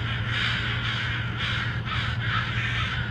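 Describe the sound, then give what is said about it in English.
Several crows caw loudly and repeatedly in harsh overlapping calls, a continuous noisy chorus with no pause, over a steady low hum in the background; a crow recording taken from Dr. Swift's YouTube channel. “So I grabbed that and a few other crow noises for this episode from Dr.”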